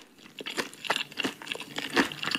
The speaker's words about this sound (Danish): Men jeg kan ikke finde det beroligende i det. Det lyder som en hest, der tykker en gulerod.